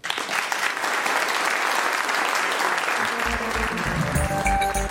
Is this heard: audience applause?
yes